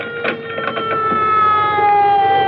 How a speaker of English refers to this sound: I think I hear a siren. That's right, lady. You only had to come up 2 blocks from Crosswell. Oh, here he is now.